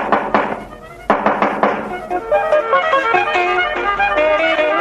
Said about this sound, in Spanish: Empezamos precisamente por eso, por la radio de los concursos, por la radio en directo, y este es un buen ejemplo de ello. Adecrem llama a su puerta.